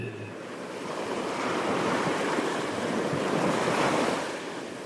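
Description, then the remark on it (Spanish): Soft ocean waves wash steadily onto a tropical beach with white sand and a calm, clear blue sea, a broad hissing surge that swells and recedes with a light breeze; no voices, calm and continuous. “Os mojáis los pies con las suaves olas que se acercan a vosotros y vosotras.”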